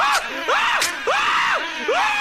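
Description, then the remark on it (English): The cartoon character Homer screams in repeated rising-and-falling bursts, about four loud wails in quick succession with brief breaths between them and no other talking. “Then stop screaming so loud.”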